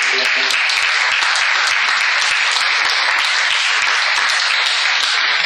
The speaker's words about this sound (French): Ok, merci. On va devoir clore. Donc, je vous propose d'applaudir en scène.